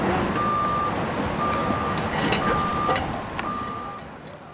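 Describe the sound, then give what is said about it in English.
Heavy machinery rumbles steadily as a huge bulldozer and a forklift lift a car and put it in a dumpster during a Caltrans clearing of Wood Street, while a reversing alarm sounds four evenly spaced, high-pitched beeps about once a second, clear above the engine noise. “Right now I'm looking at a huge bulldozer and forklift lifting someone's car.”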